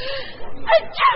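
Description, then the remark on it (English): A single sneeze with a short breathy build-up followed by two sharp bursts, loud, with no other sounds around it. “Oh, I only said Gesundheit.”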